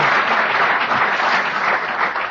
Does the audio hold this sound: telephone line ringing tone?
no